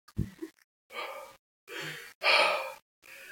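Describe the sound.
A voice imitates a man breathing heavily in a public toilet: four or five loud, airy breaths in a steady in-and-out rhythm, each swelling and fading with short pauses between, opening with a brief low thump.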